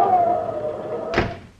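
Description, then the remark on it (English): A front door swings open with a thin, drawn-out creak, then bangs shut with one solid slam. No voices. “And there's somebody coming up on the porch, Pa. Answer the door.”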